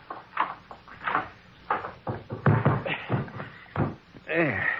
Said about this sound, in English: You see that linen closet across the hall? I see. You want some help? Nope. Just open that closet door.